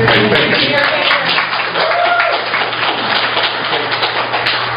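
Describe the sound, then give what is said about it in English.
A crowd at a public meeting applauds from the floor after a speaker urges a vote against a proposal, to keep the land as farm ground. Dense overlapping claps fill the whole stretch at a fairly loud level, with a low steady hum underneath and a few voices faintly mixed in. “Again, I need to ask that people don't applaud from the floor.”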